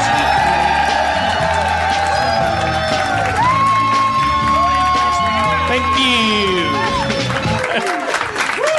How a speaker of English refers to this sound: Thank you. Wow, you're a lively crowd. I feel obligated to reciprocate your energy.